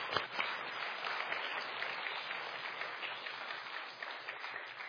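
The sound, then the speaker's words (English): Steady audience applause for a group of parents fills the whole stretch, a dense wash of many hands clapping at an even, sustained level with no pauses. “Let's give these parents a big round of applause.”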